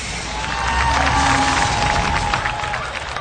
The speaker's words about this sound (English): When his canopy opened, he was deafened by the roar from the crowd.